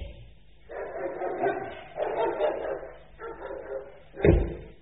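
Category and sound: animal, dog barking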